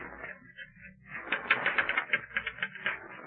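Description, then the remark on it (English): Typewriter keys clatter in a quick, uneven burst of crisp strikes, rising in loudness midway and continuing steadily to the end, with no voices. “This letter was typed on this machine.”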